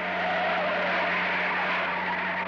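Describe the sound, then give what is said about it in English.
A truck rumbles, its low engine hum steady under a broad wash of road and tire noise for a few seconds, with no voices, as it turns and pulls up in front of a huge abandoned warehouse. “The truck turned and pulled up in front of a huge abandoned warehouse.”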